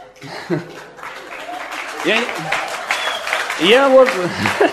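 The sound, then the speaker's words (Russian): An audience applauds, in an ovation that comes when the speaker touches on the topic of sleep. It is a steady, dense wash of clapping lasting several seconds, with voices calling out and laughing over it, and the applause swells toward the end. “Я вот удивляюсь, почему-то, когда тему сна касаешься, особые овации, особые какие-то...”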